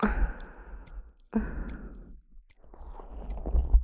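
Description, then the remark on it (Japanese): Wet squelching noises arrive in three rhythmic bursts, one each time hips are lowered, each a soft, slippery squish that fades before the next begins. No one speaks. “腰を落とされるたびに卑猥な水音が鳴って、とても感動的ですね。”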